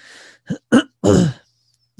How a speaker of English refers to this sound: Sorry for my cough this morning. It's just kind of bugging me this morning.